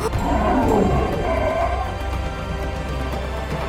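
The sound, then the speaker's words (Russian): Lions and tigers roar loudly and continuously in an arena, with deep, rumbling growls overlapping for several seconds, echoing and strong throughout. “Разве Алтаю под силу справиться с такими зверями?”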